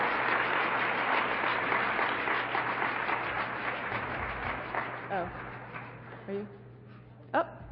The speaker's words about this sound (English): Okay, I do not think he's here. So we can clap for him anyway.